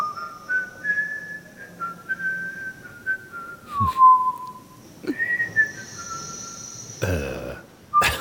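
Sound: person whistling a tune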